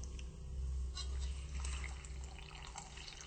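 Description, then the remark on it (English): About 4 cups of water pour steadily into a bowl of about 4 cups of dry semolina flour, a soft continuous splashing and trickling, with small drips and low background hum, no voices. “And then we pour about 4 cups of water.”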